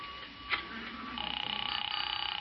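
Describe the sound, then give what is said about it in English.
A telephone being dialed: a brief click, then a quick, evenly pulsing train of faint tones and clicks that carries on steadily to the end, fairly quiet, with no one speaking. “Yeah, I have to make a phone call.”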